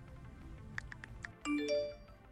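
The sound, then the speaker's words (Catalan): A few quick taps on a mobile phone screen, then a bright two-note electronic notification chime rising in pitch, with a faint ringtone-like tone ringing on briefly, fairly clear. “Així que aquest soroll... de tecleig, notificacions i vibracions desapareixerà completament dels centres educatius.”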